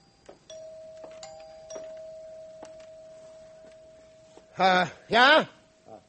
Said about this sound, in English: And the doorbell rang. It's them.